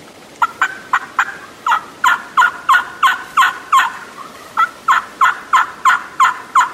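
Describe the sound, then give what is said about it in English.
A loud wooden turkey box call, used while hunting Rio Grande turkeys in open, windy country on the slopes of Mauna Loa near Kona on the Big Island of Hawaii, works out a rapid series of raspy hen yelps: two runs of sharp, evenly spaced notes with a brief pause between, and no talking. “you might want to go to a box, something that's loud that carries, or find a heavy latex mouth call and use that.”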